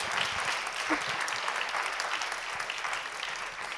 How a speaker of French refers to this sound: Vous pouvez l'applaudir si vous souhaitez.